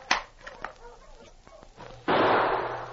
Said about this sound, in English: I ain't taking a chance on getting chewed up. I shoot him after I shoot his master. Maybe now he is close enough, huh? Yeah. Yeah, I can't miss.